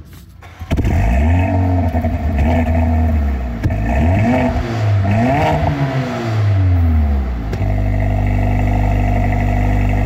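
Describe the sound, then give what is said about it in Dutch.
A powerful AMG car engine starts up and is revved repeatedly, the pitch climbing and dropping in several loud blips before settling into a steady, rumbling idle. Loud, no talking. “Maar omdat het een AMG is, misschien toch even leuk om het motortje te laten horen. We gaan luisteren naar de motor dit keer.”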